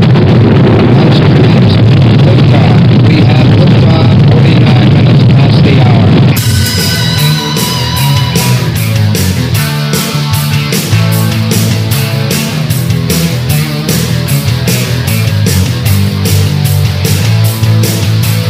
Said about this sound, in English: Guidance internal. 15, 14, 13, 12, 11, 10, 9. We have ignition sequence start. Engines on. 5, 4, 3, 2. All engines running.